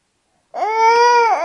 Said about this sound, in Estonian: aga mina, ära jonni, ütle, mis sa soovid.